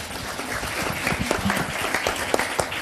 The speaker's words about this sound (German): Ein Applaus für